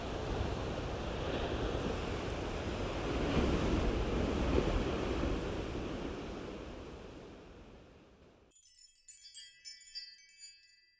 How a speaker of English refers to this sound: Along the coast of Oregon, Highway 101, it's pretty stormy out. Rain is coming and going. There's a brisk wind blowing. I read this morning that there was a gale warning.